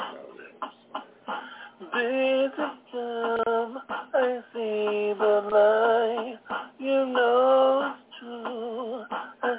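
A homemade keyboard song called Bass Jam Part 2, not made in a studio, with drum beats: sustained, slightly wavering melodic tones play over short, regular percussive hits, continuous and moderately loud with a muffled, lo-fi quality.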